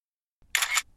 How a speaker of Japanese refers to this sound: ある日の放課後、夕暮れの河原で風景の写真を撮っていると、突然彼が私に向かってシャッターを切りました。